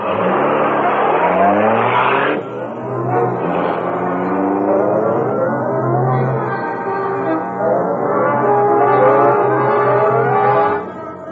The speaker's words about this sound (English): Scar, look. A car outside.